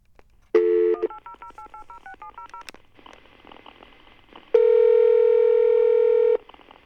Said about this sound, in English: And I'm going to dial up a phone number here, and we're going to see what we get. Here we go.